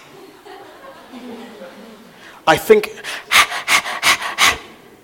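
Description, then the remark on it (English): A person imitates a dog panting, likened to a deer panting, with a quick series of about seven loud, breathy huffs in a steady rhythm, after a couple of seconds of quiet background noise. “Have you heard a dog panting? What does it sound like?”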